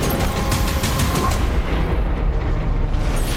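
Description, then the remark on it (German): A loud barrage of explosions from the action series The Terminal List: rapid repeated blasts in the first second give way to a continuous deep, rumbling roar that stays heavy and dense throughout, with no voices. “Wie man schon hört, an Action-Szenen fehlt es der Serie nicht. In der Serie wird viel gekämpft und einiges explodiert.”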